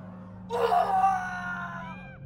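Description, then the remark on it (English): A sudden burst of overlapping screams and yells erupts about half a second in, loud and shrill, then slowly trails off into wailing cries over a steady low hum. “A mess of other voices began to yell and scream all at once, and Doyle grabbed his head and shut his eyes.”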